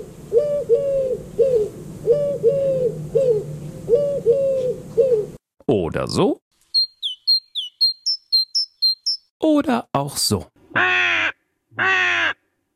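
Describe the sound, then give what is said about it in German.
Several different bird calls in sequence: repeated low hooting phrases, then a chirpy, whistling song of quick high notes, then harsh raspy caws, with a brief voice between them. “Vögel haben ja die unterschiedlichsten Gesänge. Manche klingen so.”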